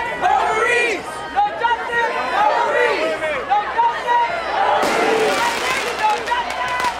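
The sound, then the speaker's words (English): A dense crowd of many overlapping voices shouts and calls out continuously at a loud, steady level, with a sharp rise in noise partway through: a street protest in the United States after the Supreme Court abortion ruling overturning Roe v. Wade, with protesters and anti-abortion activists. “On the streets, emotions were high, with protesters lambasting the decision and anti-abortion activists cheering a long-awaited result.”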